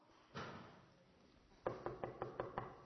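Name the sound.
knocking on a door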